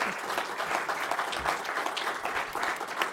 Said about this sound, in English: And with that, could we have a round of applause for our candidates, please?